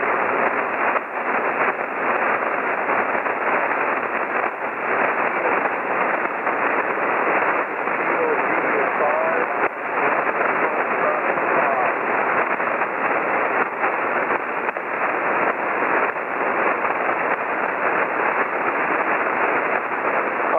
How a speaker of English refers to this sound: Hold it right there. I've got some and I've missed some because a few doubles and also the static crashes. So let's hold it right there and I need a few fills.